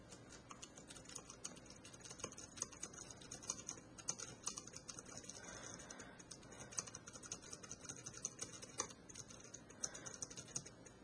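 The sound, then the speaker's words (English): Soft, rapid typing on the quiet keyboard of a Refresher Braille 18 braille display in its word processor, with quiet clicks and taps in an irregular patter, fairly faint, continuing steadily for around eleven seconds with no voices. “Now I can type on the Refresher Braille 18's keyboard.”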